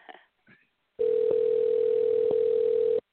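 A telephone ringback tone on an outgoing call: one steady, even electronic tone lasting about two seconds, heard clearly over the line after a couple of faint, brief handling noises.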